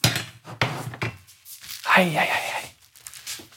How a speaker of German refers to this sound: Ich pack die Pfanne weg.